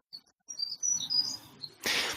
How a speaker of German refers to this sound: Wir hören gerade wieder dieses Vogelzwitschern. Mhm. Und du hörst es auf deine Art und Weise. Und ich höre es auf meine Art und Weise. Und andere Tiere hören vielleicht unterschiedlich das, was dieses Zwitschern sein mag.